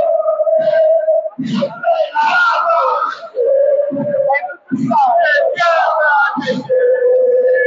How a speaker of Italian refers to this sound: ma i napoletani, i tifosi del Napoli Basket continuano a tifare a pieni polmoni come fanno.